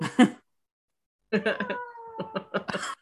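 A cat vocalizes: a short chirping call, a brief pause, then a longer warbling yowl with a drawn-out, steady tone, heard on its own without talk. The female cat has found a toy and is playing.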